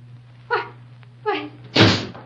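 door being opened

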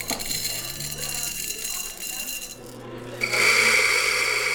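coffee grinder grinding beans

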